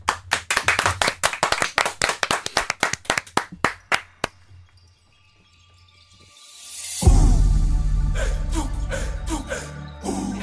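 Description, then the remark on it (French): A burst of sharp, rapid audience clapping for a live performance on Chérie FM radio goes on for about four seconds, then stops. After a short quiet pause, loud full-band sound swells in, likely music beginning. “Applaudissements!”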